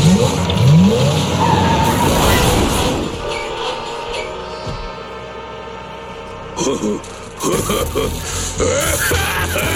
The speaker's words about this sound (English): So, what would you like to do first, Electromelon? Bumper cars!